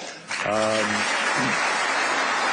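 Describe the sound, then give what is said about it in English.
An audience bursts into steady, loud applause that holds for a couple of seconds, with a brief voiced shout or cheer rising over the clapping near the start. “Oh, big round of applause, man.”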